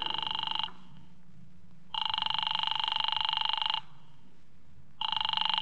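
A telephone call to an office rings repeatedly unanswered, with long bursts of bright, trilling bell tone separated by short pauses, loud, with a low background hum.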